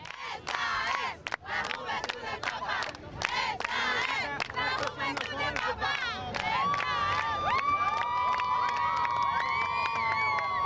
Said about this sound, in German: ebenfalls am Rande des Gottesdienstes brandete immer wieder ein Sprechchor, der schon jetzt emblematisch für diesen Weltjugendtag 2013 sein durfte.